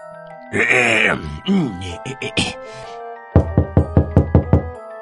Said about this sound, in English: He rushed back to the seven goats. He knocked once more.